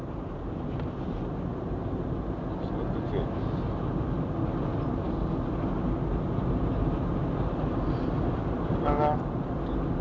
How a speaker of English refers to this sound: traffic on this road, isn't there? God.